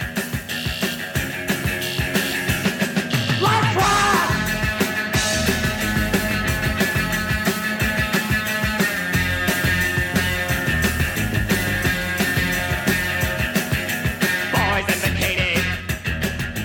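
A loud, dense rock band plays at full tilt through the frenzied closing rave-up of a 1979 Warner Brothers single version, with an electric guitar soloing over pounding drums and a couple of high, wailing screams from band members breaking through.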